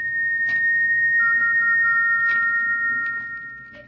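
A peculiar, thin whistle heard late at night in a bedroom at Stoke Moran as a storm brews holds a steady high pitch, joined partway by a second slightly lower tone, over a low hum with a few soft, breathy bursts and no voices.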